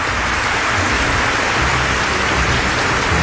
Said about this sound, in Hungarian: Hey, köszönjük szépen a tapsokat, igen, ez jól esett.